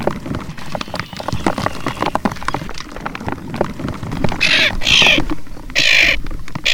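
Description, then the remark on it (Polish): Common tern chicks patter inside a plastic bowl after being brought from a platform in the middle of a pond to the shore for ringing, a busy stream of quick scratchy taps and scrabbles, joined in the second half by loud, shrill, repeated chick calls. “W misce ogromne poruszenie, a wy, drodzy słuchacze, możecie usłyszeć tupot rzecznych rybitw od dna tejże plastikowej miski.”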